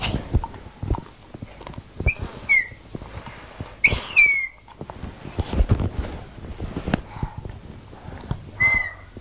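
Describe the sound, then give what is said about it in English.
A child blows a toy whistle in three shrill, wavering toots at uneven intervals, fairly loud, with rustling and handling noise in between. “Did you get that whistle from the birthday party?”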